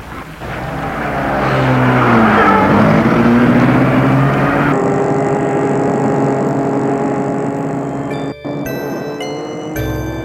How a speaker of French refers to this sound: Elle met sa voiture en route.